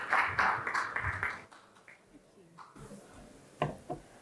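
An audience claps in a dense burst of applause for about a second and a half, then it quickly thins out into a few scattered, fading claps.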